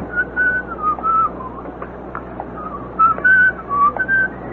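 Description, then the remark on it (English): A man whistles a short, wavering, off-key tune in two bursts of high notes separated by a brief pause, over a low steady background hum. “Off key, buddy.”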